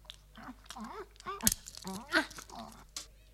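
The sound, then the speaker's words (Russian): A dog crunches and gnaws on bones, with a few sharp, loud cracks standing out amid irregular chewing, while voiced, speech-like sounds murmur throughout. “Ой, какие тут замечательные кости.”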